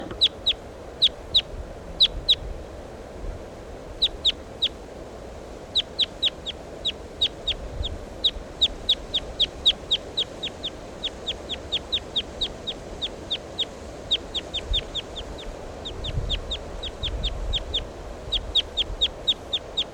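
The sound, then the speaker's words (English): A wild bird calls with sharp, high-pitched chirps repeated in quick bursts and runs throughout, heard alone over a steady low rumbling background with no talking. “Start recording the wild bird.”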